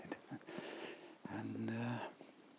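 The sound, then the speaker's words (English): A dog being walked by a neighbour passes by on the road, giving a drawn-out, low, harmonic growling whine lasting under a second, preceded by a few short, soft thuds and rustles. “my neighbour here walking his dog.”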